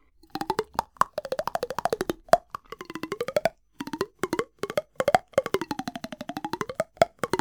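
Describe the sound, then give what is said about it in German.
Rapid fingernail taps on a ruler held in front of the mouth, a steady stream of hollow clicks whose resonant pitch glides up and down in phrases separated by brief pauses, with no talking. “Oder legen Sie ein Lineal vor den Mund und klopfen mit den Fingernägeln darauf.”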